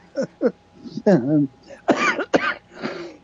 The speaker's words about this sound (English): Pardon me. Don't get me started. It's not the cough that carries you off. It's the coffin they carry you off in.